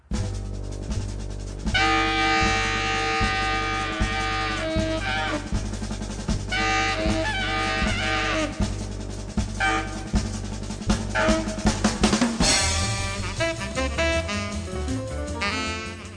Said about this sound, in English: perhaps you'd say a brass or a trumpet kind of sound, maybe a trombone sound. So they did some experimenting and ran trains in the hollows with these new whistles and new horns. People told the railroad that they appreciated the effort.